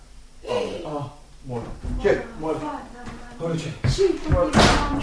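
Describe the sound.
Several heavy bangs and thuds against a door, as if it is being slammed or forced, ring out amid agitated, overlapping voices shouting and gasping, calling for the door to be opened.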